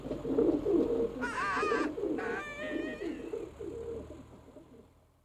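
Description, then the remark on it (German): A pigeon coos and flaps its wings in a steady, throaty burble, fairly loud, with two brief higher chirping calls breaking in before the sound fades out. “die Taube ist in ihrem Schreck mitsamt dem Pumuckl auf das Dach des Vorderhauses hinaufgeflogen”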